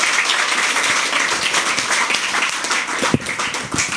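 A crowd applauds steadily to welcome a speaker before his talk, many hands clapping in a dense, continuous patter with a few sharper claps standing out near the end.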